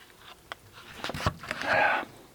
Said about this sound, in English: Oh. I need another sip of coffee. My mouth is dry.